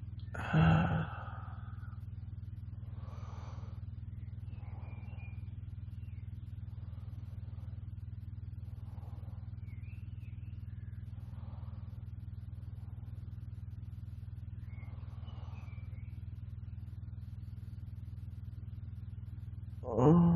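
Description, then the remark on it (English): A steady, low engine rumble drones inside a car for the whole stretch, with faint intermittent rustles and a soft breathy sigh at the start and end. “We test this in the car just to see if it works.”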